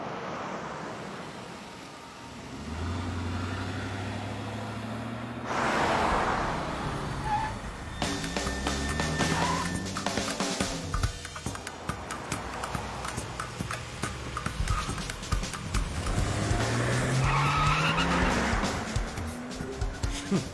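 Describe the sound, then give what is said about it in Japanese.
A car chase: engines rev and whine up and down in pitch while vehicles roar past, with bursts of rattling, clattering noise and harsh tire-like screeches, loud throughout. “カーチェイスするの？”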